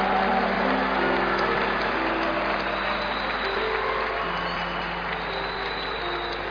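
An audience at a church service claps steadily, celebrating Jesus, in a dense, continuous wash of applause, with faint sustained tones humming underneath and no voices standing out.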